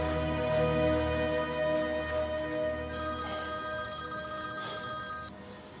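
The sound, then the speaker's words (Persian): A telephone rings steadily and loudly with a sustained, bright electronic tone, continuing for several seconds before cutting off near the end, with no voices present. “چند بار که زنگ میزنن جواب ندم میفهمن که دیگه نباید زنگ بزنن.”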